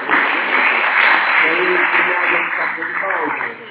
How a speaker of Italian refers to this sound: Bene, grazie, abbiamo fatto l'applauso, sì, sì.